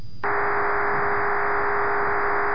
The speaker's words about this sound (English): Here is right there, what you're hearing is typical voice scrambling here in the United States for like cell phones and stuff like that. That's typical voice scrambling, this sound right here.